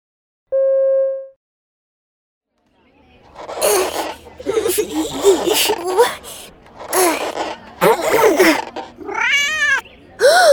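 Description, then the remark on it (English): A short electronic beep, a pause, then a cat meows and yowls loudly in a string of drawn-out, wavering cries lasting several seconds. “Watch out for the cat!”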